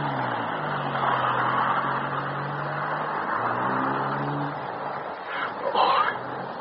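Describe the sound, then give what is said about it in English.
A car engine drones steadily as Hicks' car drives up and rounds a corner, its low hum rising and falling in pitch, with a brief sharper rasp near the end. “There's Hicks' car turning the corner.”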